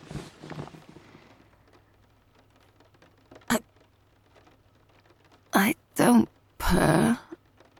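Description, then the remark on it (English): A person makes raspy, rumbling throat noises in an attempt to imitate a cat's purr: a sharp click, then three close, loud bursts, the last one longest, after a few quiet murmurs. “That's not purring, that's just throat noises.”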